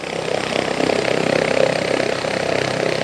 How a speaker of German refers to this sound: Nach der Wartung wird der Helikopter im Außenbereich vorsichtig getestet, bevor er wieder den Rettungspiloten zum Einsatz übergeben wird.